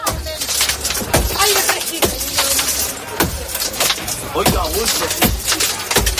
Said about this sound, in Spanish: Pero hay una imagen que ha dado la vuelta al mundo y es la de varios pasajeros rompiendo los cristales de los vagones después de llevar más de 2 horas encerrados a 40 grados y sin electricidad.